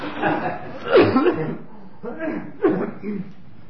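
Someone coughs repeatedly, a few harsh, throaty bursts separated by short pauses, with no other sounds around them.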